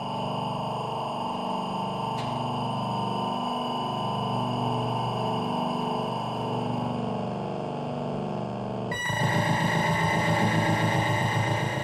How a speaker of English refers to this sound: By the way, the method used for sound generation in this is shift register output, long pulse trains, and adjusting the distribution of pulses.